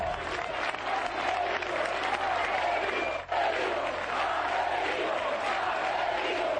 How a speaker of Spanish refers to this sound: A gritos de Marcelino, Marcelino, aparecía el técnico del Villarreal en el estadio del Sporting.